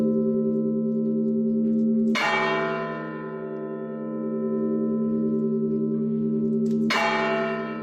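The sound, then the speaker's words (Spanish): Church bells toll slowly and loudly in Paiporta, one month after the Barranco del Poyo overflowed, at the same hour, with two sharp strikes about five seconds apart, each leaving a long, ringing hum of overlapping tones that lingers steadily between them. No voices are heard. “A la misma hora en la que se desbordaba el barranco del Pollo, justo un mes después, sonaban las campanas en Paiporta.”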